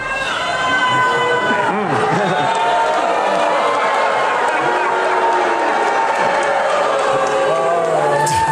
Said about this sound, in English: Like, he thinks he's making a really funny joke, and then you can literally hear booing and hissing. Like, people are like, no, how dare you spoil what the next season is going to be.